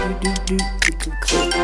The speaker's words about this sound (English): Typewriter noises.